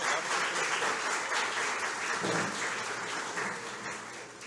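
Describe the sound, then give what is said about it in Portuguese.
A round of applause from a crowd at an official ceremony as the vice-mayor of Santa Maria de Itibá, Rafael Pimentel, and Itarana councillor Betinho Neumann are invited to join the panel, steady and fairly loud, with dense overlapping claps that hold for a few seconds and then begin to thin slightly toward the end. “Por gentileza, uma salva de palmas.”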